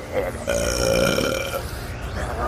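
human body sound, huge burp

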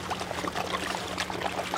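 household object, water being poured

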